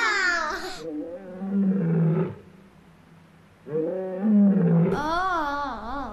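A lion roars in two loud bouts, each a deep rumbling growl that rises and wavers, with a short quieter pause between them and no talking.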